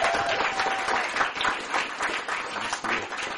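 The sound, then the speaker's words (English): An audience claps steadily as the pastor leaves, a dense, crackling wash of many hands that holds at a fairly even loudness throughout, with no clear voices on top. “Let's keep clapping.”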